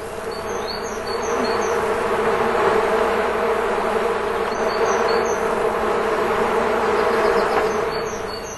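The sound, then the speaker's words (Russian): A calm, steady drone of a honeybee swarm hums continuously at an even level throughout, with faint high chirps flickering in the background now and then, on a clear, sunny, warm day. “Сначала прислушайтесь к обычному спокойному гулу пчелиного роя в ясный солнечный теплый день.”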